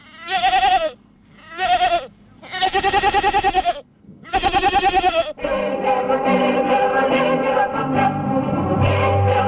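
goat bleating

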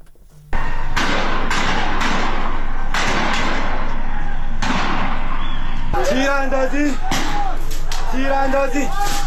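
gunshots fired

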